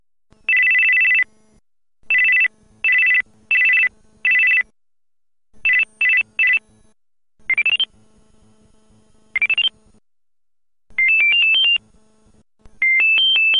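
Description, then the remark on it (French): Several short electronic ringtones from a Panasonic GD90 mobile phone play one after another: bright beeping tones in repeated bursts, some steady, some rising in pitch, with a faint low hum underneath and brief pauses between them. “Maintenant, je vous propose de découvrir quelques petites sonneries de ce modèle.”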